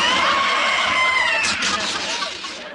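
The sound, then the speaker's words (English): A loud, high-pitched scream rings out, holding a shrill wavering tone before breaking into ragged, breathy shrieks that trail off near the end; a man disguised in a woman's dress screams in a store's frozen foods department as his house coat is ripped. “That high-pitched scream didn't fool me”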